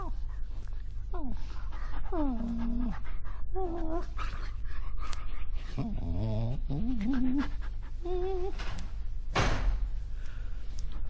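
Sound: dog panting and whimpering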